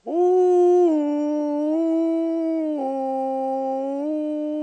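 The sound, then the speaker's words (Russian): A woman's voice, as the character Elizaveta Bam in a staged play, lets out one long, loud wolf-like howl, held steadily for several seconds with slight pitch wavers and small drops, imitating a she-wolf, with no other sounds. “Волчица!”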